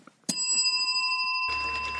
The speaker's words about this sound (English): Oh, do we need the closing bell? Sure we do.